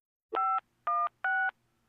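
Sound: telephone dialing tones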